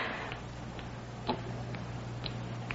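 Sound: clock ticking at night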